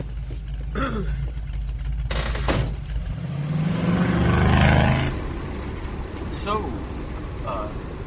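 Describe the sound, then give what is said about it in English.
A car engine hums low and steady throughout while someone is driven home, rising in pitch as it revs up midway, with brief voices speaking over the rumble. “Give you a ride home in my car to your house.”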